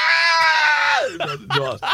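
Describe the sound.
A voice imitates a trout screaming in pain: one long, loud, high-pitched wail held for about a second, sliding downward, then a couple of shorter strained cries.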